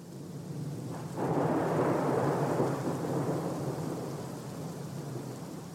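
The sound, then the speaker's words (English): A thunderstorm with heavy, steady rain pouring down; a deep roll of thunder swells in after about a second and rumbles on beneath the dense hiss of rainfall, with no voices. “I mean, I've never, you know, seen all this lightning.”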